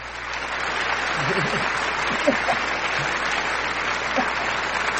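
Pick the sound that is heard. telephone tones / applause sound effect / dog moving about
applause sound effect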